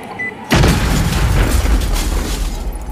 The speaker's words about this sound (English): We've had this place rigged to blow for ages. We've been waiting for this day for so long! Goodbye to our workshop!